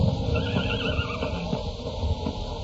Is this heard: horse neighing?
yes